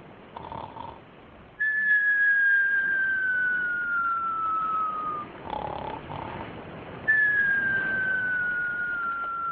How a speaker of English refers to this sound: What's this? Aww, she's snoring most extravagantly.